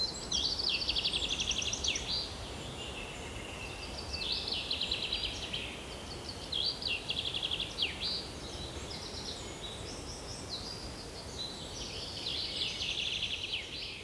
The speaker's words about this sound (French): J'aime beaucoup les enseignements méditatifs et la pratique collective en silence, lors de séances assises, couchées ou en marchant pieds nus dans la magnifique forêt bordant le monastère, accompagnée par les mélodies des oiseaux.